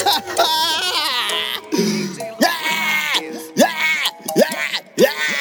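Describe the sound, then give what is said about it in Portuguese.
A person's voice imitates an exaggerated cartoon wail, loud and close, with a run of repeated rising-and-falling sobbing swoops that sound half like crying and half like giggling. “Ele tá chorando igual Chiquinho do Chaves!”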